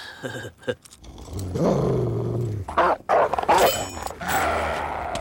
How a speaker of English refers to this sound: Whoa, check it out. Stupid dog.